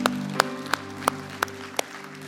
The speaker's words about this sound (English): Amen, amen. Give the Lord an applause, would you?